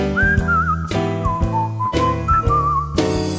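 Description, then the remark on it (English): A bright whistled melody wanders up and down over a steady instrumental accompaniment with rhythmic strums, the whistling clear and prominent throughout. “When you're feeling in the dumps, don't be silly chums, just purse your lips and whistle, that's the thing.”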